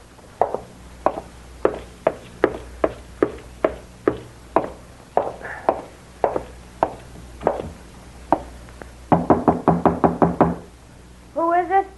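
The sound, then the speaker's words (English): Steady, insistent knocking on the door of an upstairs room, single raps spaced about half a second apart, then a quick flurry of rapid knocks near the end. Fairly loud, with no voices. “Open the door, Teal.”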